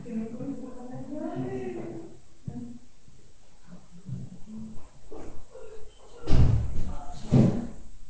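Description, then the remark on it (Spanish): Muffled voices murmur, then a door is opened and closed, giving two loud, heavy knocks about a second apart. “Por referencia, déjale abierta la puerta si quieres y ya entras tú.”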